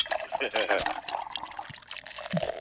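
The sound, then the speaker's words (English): Beer pours steadily into an ice-cold glass on a Saturday night, a bubbly, splashing stream with a faint rising fill tone, while muffled voices murmur in the background. “Here comes the beer.”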